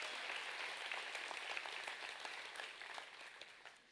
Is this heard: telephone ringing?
no